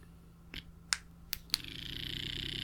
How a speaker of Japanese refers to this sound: 今からスローナニーっていうのが、クリ吸引バイブで、クリを吸っていきます。よいしょ。こういうやつですね。